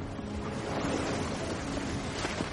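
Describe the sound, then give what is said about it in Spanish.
Steady ocean waves roll and break continuously on the shore, a broad wash of crashing water with a gusty, windy edge, moderately loud with no one talking. “Movimiento de las olas.”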